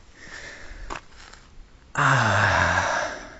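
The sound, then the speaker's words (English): Heavy breathing from someone winded after a short uphill sprint outdoors in nature: a short sharp intake followed by a long, loud, rasping exhale with a slight voiced edge, and no talking. “And with my lungs doing some extra work, I'm breathing even more.”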